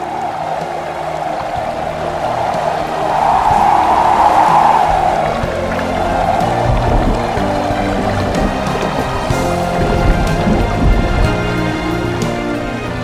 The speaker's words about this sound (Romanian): După ce a fost terminată, a venit anotimpul ploios. Vântul a început să bată cu putere.